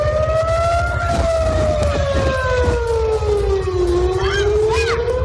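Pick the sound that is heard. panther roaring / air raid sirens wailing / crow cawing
air raid sirens wailing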